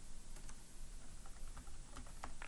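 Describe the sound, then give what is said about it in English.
Quick, irregular keystrokes clatter on a computer keyboard as an email address is typed into alert settings, fairly quiet, a run of light clicks over a steady background hiss with no voices. “Okay, my typing is pretty off.”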